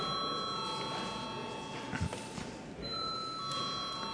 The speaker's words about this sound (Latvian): Deputāti prasa balsojumu, lūdzu zvanu.